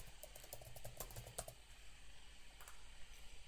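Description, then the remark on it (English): Quick, light keystrokes clatter on a computer keyboard in a short burst as a password is typed in to connect to SQL Server Management Studio, then taper off into a low hum with a few scattered clicks. No one speaks. “I'm just typing in the password.”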